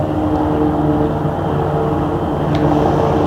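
airplane landing

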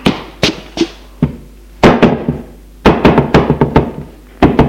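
knocking on a door

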